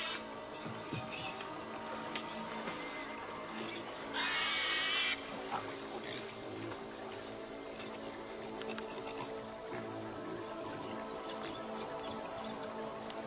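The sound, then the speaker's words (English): Pigs grunt and snuffle against a dense, steady background of outdoor ambience, with one louder, rougher burst partway through and no one talking. “As they journey through unknown jungles, the pigs help them survive.”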